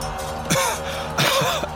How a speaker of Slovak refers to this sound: Lapá po dychu, kašle a v ústach sa mu rozlieva železitá chuť.